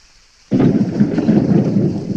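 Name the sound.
rain with thunder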